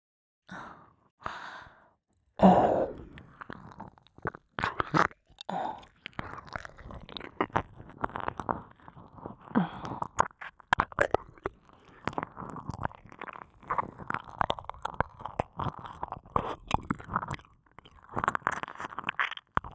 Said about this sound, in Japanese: もっとだ。もっと舐めさせてくれ。